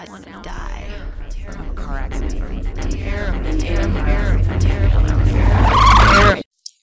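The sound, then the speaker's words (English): Car tires skid and screech in a crash, the noise swelling steadily louder over several seconds before stopping abruptly, with a steady low engine rumble and vocal sounds mixed in. “Have you ever been in a car accident? It's awful.”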